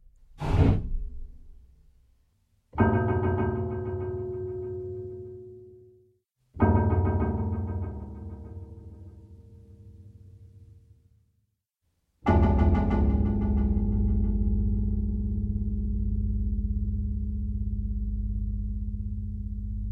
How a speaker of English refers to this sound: Here's the sound of the scuba equipment banging on metal. This is achieved by banging on the low piano strings.